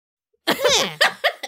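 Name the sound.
sneeze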